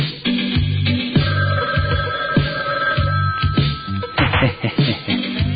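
telephone bell ringing

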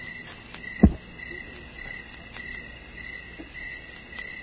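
crickets chirping

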